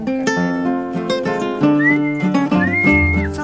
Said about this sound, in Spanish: Ahí entra una dama, sí, a ver, y un silbato de cartero. Ah, pues órale, ahí está la dama, el silbato y ahora la canción.